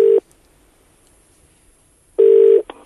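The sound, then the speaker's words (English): A telephone rings in two short electronic tone bursts separated by about two seconds of near silence, the second burst followed by a quick click as if the call is picked up. “It's clearly his voice that he's listening to when he answers the phone.”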